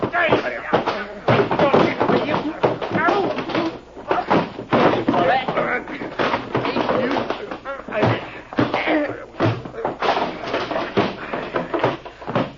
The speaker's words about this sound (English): Gee, that was a fight.